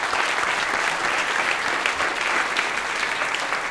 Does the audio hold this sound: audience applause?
yes